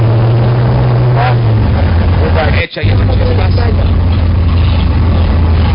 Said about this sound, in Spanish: Aquí arrancó en las barras de la autopista un 44 arrastrando la moto. O sea, aquí acababa de arrancar y pasó por encima de la moto.